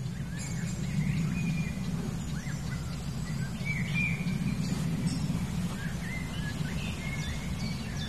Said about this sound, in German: Und den Specht hören wir. Spechte sind aktiver auf jeden Fall als heute Morgen. Und viel zu hören. Ticks, ticks, ticks, ticks, ticks.